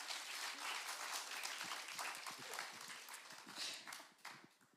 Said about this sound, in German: Gebt dir doch mal einen kurzen Applaus, eine kleine Ermutigung.